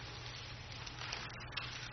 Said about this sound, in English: turn with me in your Bibles to Revelations, the third chapter. We'll find ourselves in verses 7 through 13. And as I continue to hear pages turn, I'll wait, give everyone an opportunity to find that place in Scripture.